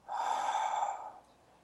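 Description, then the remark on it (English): A single long, deep breath drawn during a seated breathing exercise, directed downward, airy and steady for about a second before fading into quiet. No one speaks. “Use your breath and breathe yourself down.”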